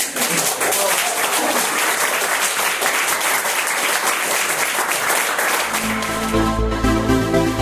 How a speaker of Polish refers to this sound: wszystkim innym ludziom, którzy organizowali, należą się naprawdę gromkie brawa.